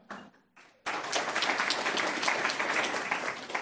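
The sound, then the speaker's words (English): A brief murmur gives way to a sudden burst of audience clapping, many hands applauding at once in a dense, steady roar that holds strong until the end. “I'm not aware of any pilots here, so I'm going to be slightly nervous if we get a lot of clapping to begin with.”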